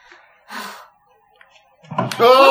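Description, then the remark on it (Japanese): A door creaks loudly, a strained squealing groan with a dull knock as it shuts by itself, preceded by a brief breathy rustle and a quiet pause. “じゃあドアがギーって言っただけで、 え？勝手に閉まった。”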